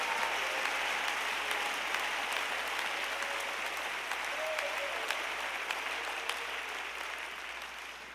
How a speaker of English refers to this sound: Why don't we clap our hands and give God praise?